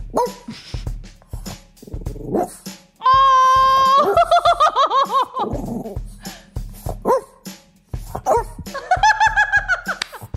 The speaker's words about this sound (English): Well, that French Bulldog clearly had a lot of breathing noises to contribute to this conversation. Yeah, I can't say I like a mouth breather.